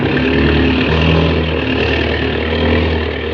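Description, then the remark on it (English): A loud, steady engine roar with a deep humming drone and dense harmonic buzz from a propeller plane's engine with the throttle opened wide, holding level without pause. “Now, open the throttle up wide.”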